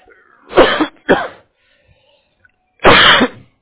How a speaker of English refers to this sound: I'm sorry, hold on, I'm having that coughing fit. Hold on. hold on, this is really bad.